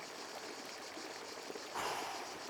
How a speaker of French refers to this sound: La Sorgue est une toute petite rivière de 35 km seulement. Mais son débit est impressionnant! Regarde!